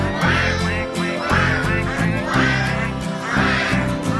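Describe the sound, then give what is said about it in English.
Four nasal duck quacks sound at a steady, evenly spaced rhythm, loud, layered over continuous bouncy music. “That is what ducks say.”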